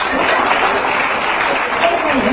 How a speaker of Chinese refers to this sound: 鼓掌。